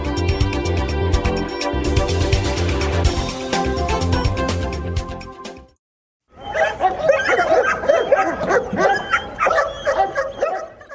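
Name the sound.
police dogs barking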